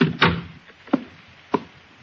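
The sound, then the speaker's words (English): A door swings shut with a solid wooden thud, followed by two sharper knocks of the latch settling, with no one speaking. “Well, in that case, maybe you ought to shut the door.”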